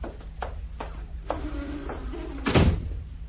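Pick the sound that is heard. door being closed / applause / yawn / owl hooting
door being closed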